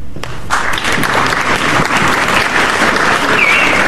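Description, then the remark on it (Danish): An audience at a debate meeting ahead of a youth election applauds after a speech, a steady, dense patter that swells after a brief quieter start and holds at a fairly loud level to the end, with no one speaking over it. “Det var ikke meget i klappet.”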